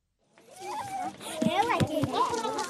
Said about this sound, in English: As kids spin it around, they draw gallons of pure water from an underground well and into an elevated storage tank.